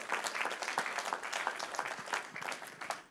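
Steady applause from a conference audience, a dense patter of many hands clapping at once with no voices over it, holding an even level for about three seconds.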